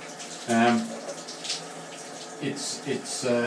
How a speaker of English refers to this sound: Hold on a second, I gotta take the iPhone out of the water. This is just not easy to do.